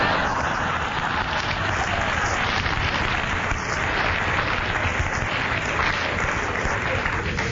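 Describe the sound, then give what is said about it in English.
A panel game audience applauds a contestant's aggressive interruption steadily for several seconds, a dense, even wash of many hands clapping at constant loudness with no pauses or voices standing out. “That's your applauding such arrant aggression.”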